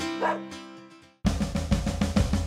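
A dog gives a few short, pitched barks and yips, then a louder, denser burst of sound takes over for the rest of the moment.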